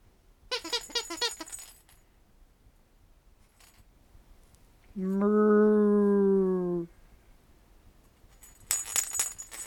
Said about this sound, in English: You dropped the ball. That's called cause and effect. You drop it, you can't get it.